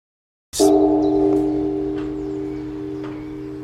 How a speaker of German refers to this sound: Mit kräftigen Glockenschlägen und Gesang ruft eine Nonne abends zum Essen.